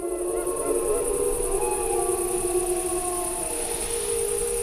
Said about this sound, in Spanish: al fondo, pues eso, una manada. No, se oyen varios. Sí, claro, las manadas, los lobos. Bueno, ya hablaremos de eso más adelante, pero los lobos aullan entre ellos, ¿no?